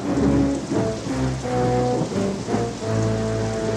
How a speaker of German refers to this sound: Doch das Unwetter war gar furchtbar.